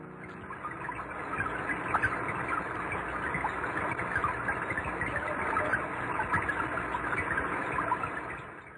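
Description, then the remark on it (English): Rain recorded underwater: a steady, dense crackling patter with soft popping ticks, holding an even level throughout and fading out at the end. No voices. “But for now, I want to leave you with a little gift of listening to what a fish might hear on a rainy day.”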